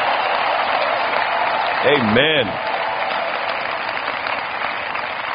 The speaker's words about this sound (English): Come on, let's rejoice and give the Lord a big hand clap of praise.